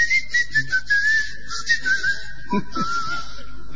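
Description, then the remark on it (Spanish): A person whistles a continuous, gliding melody with speech-like rises and falls in pitch, imitating a whistled language that can be both spoken and whistled, clear for about four seconds, with a soft low thump partway through. “Pero no, lo curioso es que tienen una lengua que por los lingüistas está considerada como la menos sonora, que tiene 3 vocales y 8 consonantes, y que tiene una particularidad muy notable, que es que se puede hablar y silbar.”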